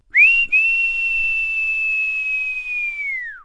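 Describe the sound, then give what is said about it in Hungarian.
A single long whistle, one steady high tone held for about three seconds after a quick rise, then sliding downward at the end. Loud, with no talking. “Aztán a nyúl füttyentett egyet.”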